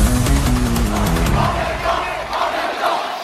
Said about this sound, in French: Je pense qu'il faut rappeler, vous, journaliste politique, Apolline de Malherbe, qu'une foule entière en meeting a scandé ce « en même temps » parce qu'on l'a oublié. Exactement. Ce générique, il n'est pas enregistré de toute pièce.